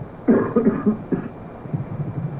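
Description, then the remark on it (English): A short cluster of muffled coughs from a person ill with a virus, a few quick bursts followed by one more, then quiet low murmuring fades into the background. “Excuse me, I have to cough.”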